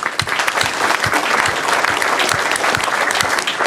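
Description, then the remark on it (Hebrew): An audience applauds everyone who took part in the project, a dense wash of many hands clapping at an even loudness for several seconds, with no voices rising above it. “אז קודם כל מחיאות כפיים לכל מי שלקח חלק.”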